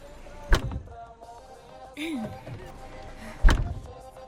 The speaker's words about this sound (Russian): Хорошо. Закрывай дверь, поехали.